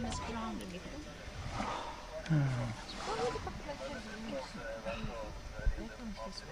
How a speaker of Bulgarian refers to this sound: Забелязвате ли схватката на лъвовете? Но това не е всичко. Положението ще се осложни след малко. Четири лъва започват да го дърпат. Искат да го разкъсат.